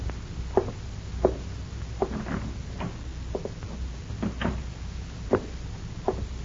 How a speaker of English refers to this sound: When you walk into this house, Leif, close the door quietly. Now go back and do it.